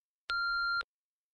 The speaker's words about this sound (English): I'm sorry I can't come to the phone right now. Please leave your name and number after the long beep. I'll get back to you as soon as possible.